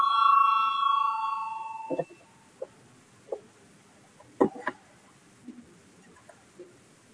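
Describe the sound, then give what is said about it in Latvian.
A parliament voting bell, rung to call a vote on a deputy's proposal, rings with a steady, fairly loud tone for about two seconds, then fades, leaving quiet with a few scattered knocks and clicks. “Lūdzu zvanu balsosim par pirmo deputātu Lucāna iesniegto priekšlikumu.”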